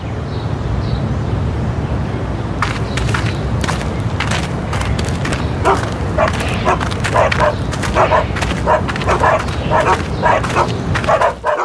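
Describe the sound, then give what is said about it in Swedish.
Six bulldogs being walked along a street in Rainhill, St Helens, bark repeatedly in short, sharp bursts, starting a few seconds in and continuing irregularly over a steady low rumble of background noise. “Mark Kinsella och hans partner Wendy Owen ute och gick med sina hundar. De hade inte mindre än 6 bulldoggar”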